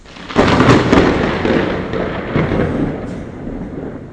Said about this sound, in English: As you can hear, we're having a harsh thunderstorm, but the funny thing is there's absolutely no rain, none. But the thunder is just, lightning just flashed.